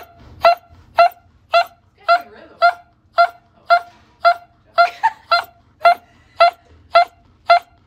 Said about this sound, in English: This dog is totally fine and was waking up from surgery when he started dropping a pretty sick beat.